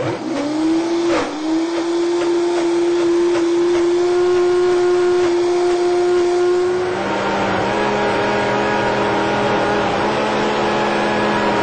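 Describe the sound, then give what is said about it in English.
A Vitamix blender blending a chocolate smoothie with agave syrup whirs loudly and steadily, its pitch rising quickly at the start, holding a high whine, then dropping to a lower, rougher churning tone for the last few seconds. No one speaks. “So we're going to Vitamix this.”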